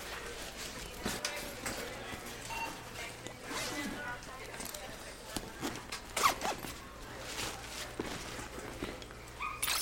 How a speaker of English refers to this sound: Zip your bag for me, please.